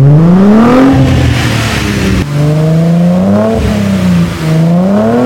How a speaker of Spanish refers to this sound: El carro se le siente un auto deportivo, es un auto sport y creo que ahora sí ha cumplido al 100%.